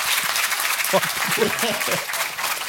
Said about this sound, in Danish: Prøv at klap, hvis I ikke kender podcasten. Okay. Prøv at klap, hvis I kender podcasten så. Okay. Ja, tak.